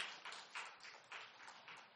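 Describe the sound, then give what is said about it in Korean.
An audience claps steadily, a dense patter of many hands with soft rhythmic swells, bright and crackly, holding at a moderate level without any voices over it. “예, 우리 박수.”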